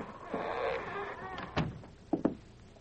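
The door of a dark, abandoned former boom-town building with a wide veranda is tried and opened: a drawn-out creaking scrape, then a sharp knock and two quick clunks of the latch, moderately loud, with no voices.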